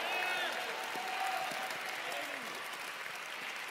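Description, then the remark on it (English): A crowd in Pittsburgh, Dallas and Fort Worth claps steadily and densely, mixed with scattered shouts and cheering voices, giving the Lord a hand clap and shout; the applause holds at a fairly even loudness throughout without a break. “If you receive that, go ahead in Pittsburgh, in Dallas, Fort Worth, give the Lord a mighty hand clap and shout.”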